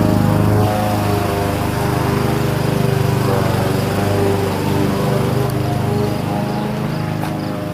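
A lawn mower engine runs steadily, a loud, continuous droning hum with a buzzy, rattling texture that holds constant throughout without pauses or voices.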